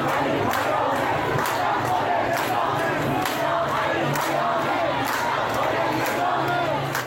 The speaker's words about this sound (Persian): اما این مردم با پایین کشیدن نمادهای جمهوری اسلامی خواستهشان را یک صدا فریاد میزنند.